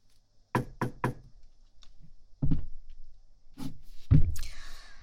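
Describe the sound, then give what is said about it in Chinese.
Three quick, sharp knocks on a door, then a pause followed by a few duller thumps and a brief rattling scrape, with no one speaking. “呀，终于肯开门了，让我先进去。”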